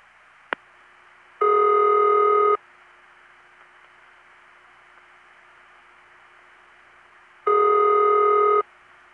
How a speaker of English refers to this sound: What do you think, bell or independent? Well, that's not one of the bell system rings. It is, however, one of the independent rings that I gave a name to because it is found in general telephone areas, such as West Los Angeles and the Tampa Bay area